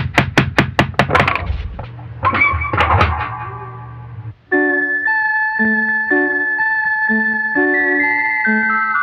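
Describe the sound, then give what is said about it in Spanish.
A quick run of about seven sharp knocks on a door, followed by a few scattered thumps, then a bright, tinkling jingle-like melody plays steadily to the end. “¿Y si tocamos la puerta?”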